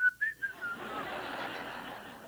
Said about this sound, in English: You know, tonight, are you going to go out to your car and whistle?